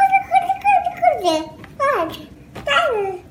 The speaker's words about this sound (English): For example, in human infant babbling, they produce a syllable type, ba, ba, ba, ba, in a rhythmic way, then they switch to the next one, da, da, da.